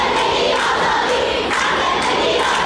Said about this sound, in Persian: علی‌رغم این سرکوب شدید، خیابان‌ها شلوغ هستند و صدای شعار قطع نمی‌شود. تجمعات محدود به مناطق مرکزی شهر نیست. اینجا غرب تهران است، سردار جنگل.